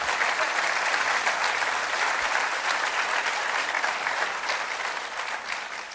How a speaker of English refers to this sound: Now, I absolutely love that. I'm going to lead some applause here on that.